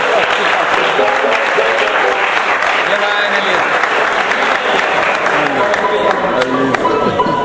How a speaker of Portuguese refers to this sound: Receba uma salva de palmas, vem cá.